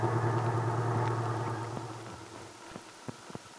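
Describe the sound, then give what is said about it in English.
A small truck pulls into a parking space on Main Street; its engine hums steadily, winds down and cuts off after a couple of seconds, followed by a few sharp clicks and knocks in the quiet. “Just then, Randy pulled into a parking space on Main Street.”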